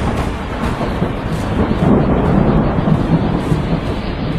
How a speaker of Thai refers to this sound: มันอะไรกันนักกันหนาเนี่ยฝนตกยังกับฟ้าถล่มทลาย